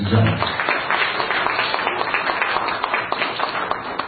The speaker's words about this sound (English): Please give a big welcome and a round of applause for